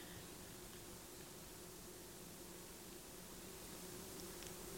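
A steady, low droning hum of many bumblebees buzzing together, continuous, blended into a soft, hissing outdoor forest ambience in Dalarna, Sweden, with no voices.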